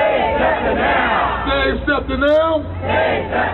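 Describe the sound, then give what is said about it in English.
Dozens of SEPTA transit riders shout and chant together at a rally outside 12th and Market Streets, loud and steady, with rising and falling pitch and a low rumble of traffic underneath. “Dozens of SEPTA riders rallied outside 12th and Market Streets Monday before the first round of public hearings on the transit agency's budget shortfall.”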